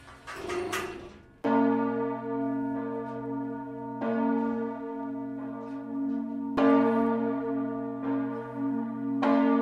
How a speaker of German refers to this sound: Die Glocke besteht aus Bronze und sie wurde in München gegossen. Und wird die Glocke geläutet? Das ist jetzt der Glockenfunk. Den kann man da einschalten und jetzt kann man von hier aus die Glocke läuten. Unten ist der Knopf Glocke 1.